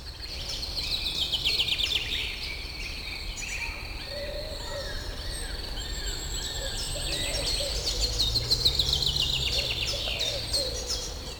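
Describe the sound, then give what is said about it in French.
Birds sing and chirp steadily among trees in an outdoor woodland setting, several calls overlapping, with a faint insect-like buzz and soft ambient background throughout. “La foule des arbres et des oiseaux vous accueille.”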